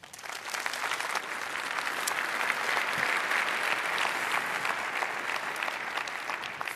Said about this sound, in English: Please welcome her with a lot of applause.